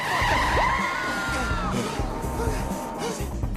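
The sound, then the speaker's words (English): A car peels away with loud, wavering tire squeals over a roaring engine, the screech bending in pitch for several seconds amid chaotic background noise and faint voices. “Orpheus appears in the car, and they drive away.”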